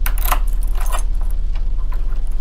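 Keys jangle and clink against a house door lock at 8 in the evening, a few quick metallic rattles over a steady low hum.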